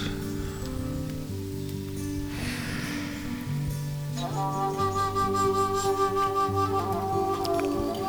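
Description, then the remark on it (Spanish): Soft, breathy flute music drifts over a steady low drone, with sustained notes that grow brighter and fuller halfway through. No one speaks; the calm melody plays on its own. “Y poco a poco, mientras escuchas el sonido de mi voz, y esa flauta que también irá contigo”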